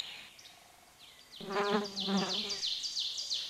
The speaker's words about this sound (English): Bees, butterflies, and billions of busy bugs are having a great day, and they are all being very, very noisy.